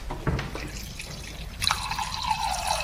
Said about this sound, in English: Okay, George is just filling up the wine glass here. He's okay. I think it's almost about right. Looking good.